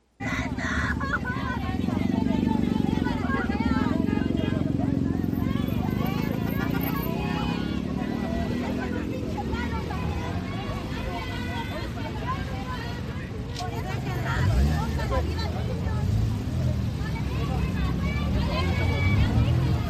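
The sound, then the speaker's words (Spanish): A car engine revs and surges as the driver accelerates into people and police blocking Eje 1 Norte in Mexico City, amid a loud, agitated crowd on the street, with overlapping shouts and voices continuing throughout. “bloqueaban el Eje 1 Norte aquí en la Ciudad de México, y pues en su desesperación aceleró contra las personas y los policías de la Ciudad de México, mira qué novedad, no pudieron contener la agresión.”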